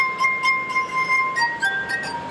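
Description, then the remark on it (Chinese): Sustained, ringing tones from a glass harp of rubbed crystal glasses holding water carry a slow melody, pure pitches shifting from note to note with soft shimmering overtones, clear with no voices. “图纳用玻璃琴演奏各种各样的乐曲”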